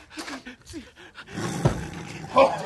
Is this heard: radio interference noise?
no